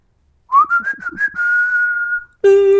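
Someone whistles through pursed lips, a few quick rising chirps sliding into a long steady tone that fades, followed by a brief harsher, buzzier note at the end. Fairly loud, no talking.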